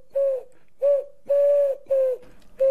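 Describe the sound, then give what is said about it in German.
A pigeon, the pigeon of Kopernikusplatz, coos five times in close succession, each note a loud, throaty hum with brief pauses between, with no other sounds. “Huhu, ich bin die Taube vom Kopernikusplatz.”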